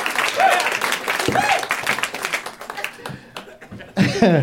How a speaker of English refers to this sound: I know that's all for me. I know I'm the one you're applauding for. I appreciate it. I totally appreciate it.